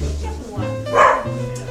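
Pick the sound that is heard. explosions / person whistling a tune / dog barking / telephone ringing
dog barking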